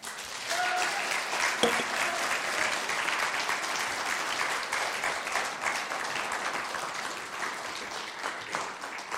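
An audience claps steadily for several seconds, a dense, sustained patter of many hands at an even loudness, with a faint voice briefly audible near the start.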